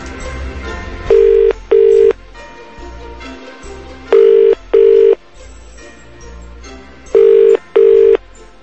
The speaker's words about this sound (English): And who will be the first person to answer the phone if we ring the house?